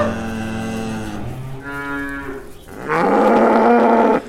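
Several cows standing on farm fields moo in turn, three long drawn-out calls, the last one loudest and most strained, with no talking in between.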